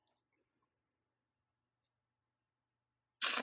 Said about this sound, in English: Man, I got to do my nervous clicking the pen thing here.